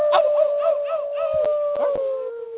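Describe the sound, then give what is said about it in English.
A sustained, wavering wolf-like howl holds a steady pitch for a couple of seconds, with a few short yips and sharp clicks breaking in near the middle and end. “You know, I wish we could do that loud enough that we could get my dogs doing that.”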